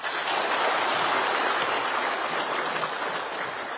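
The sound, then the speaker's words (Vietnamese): An audience claps in a dense, steady roar of many hands, keeping an even level for a few seconds with no voices over it. “Các vị cho tràng pháo tay.”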